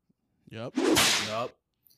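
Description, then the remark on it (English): A single whip crack imitated by a voice: a short voiced swoop followed by a loud, hissing burst about a second long, alone in an otherwise quiet moment. “That's him cracking his signature whip.”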